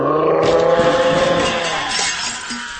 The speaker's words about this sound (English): Just then, behind me, the dragon sent up a great roar and tipped over the high table.